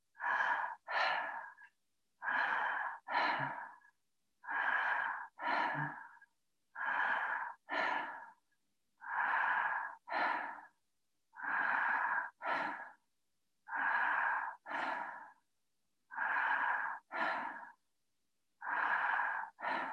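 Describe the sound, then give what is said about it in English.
Quick, shallow breaths through a slightly open mouth rasp in the back of the throat in steady paired in-and-out bursts with no gap between in and out, about sixteen short puffs in a regular rhythm, fairly loud with brief pauses between pairs, during a breathing exercise. “Now breathing in and out through your mouth, having the mouth slightly open like a newborn baby, breathing into the back of your throat and having no time between the in and the out breath. So it's a very short, shallow breath.”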